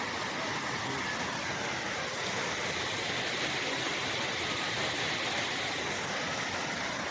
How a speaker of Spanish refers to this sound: Ahí vemos cómo estamos ahora en el dique de Mena abajo. Observen hacia la parte de abajo cómo va ese gran caudal de agua.